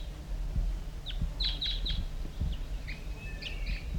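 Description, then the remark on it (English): A wild bird, a female crossbill joining a male in a lone pitch pine near a net site, gives a series of short, high chirps, three quick notes followed by a few thinner warbling calls, over a steady low rumble of background noise. “Here comes another wild bird.”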